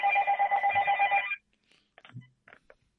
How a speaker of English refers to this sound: I hope somebody gets that phone.